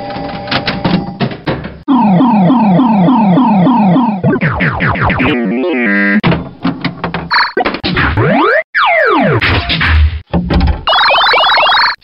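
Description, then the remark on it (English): Busy, loud old-fashioned pinball machine sounds: ringing bells and chimes, rising and falling electronic tones, and sharp mechanical thwacks in a nonstop jumble, with no one talking. “I'd like to hear an old fashioned pinball machine.”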